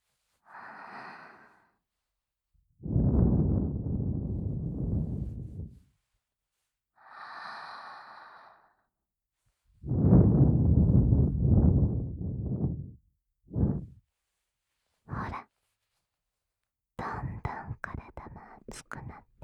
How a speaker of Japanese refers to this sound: もっと吐息を吹きかけてしまいましょうか。さらなる感覚が味わえますよ。